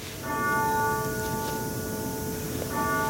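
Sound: grandfather clock chiming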